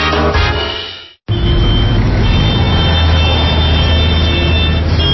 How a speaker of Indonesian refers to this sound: Aduh, macet banget sih. Padahal kan weekend. Iyalah, namanya juga Jakarta.